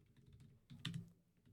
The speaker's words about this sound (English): Oh no, you're all looking at me typing.